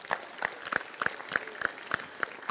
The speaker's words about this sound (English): Clap your hands for Jesus.